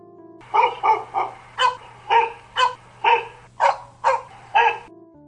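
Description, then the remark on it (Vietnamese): At night, a dog barks about ten times in a steady, even rhythm, sharp, starting far outside and coming closer, over a faint low hum, with no one talking. “Bỗng có tiếng chó sủa vang lên từ ngoài xa, càng lúc càng đến gần.”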